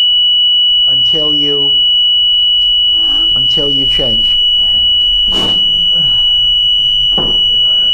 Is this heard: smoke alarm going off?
yes